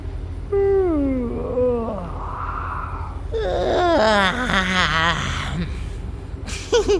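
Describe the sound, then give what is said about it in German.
A voice gives a drawn-out yawn, its pitch sliding downward, followed by a breathy stretch and a second long, wavering, groaning yawn that fades out. “Tief einatmen und gähnen.”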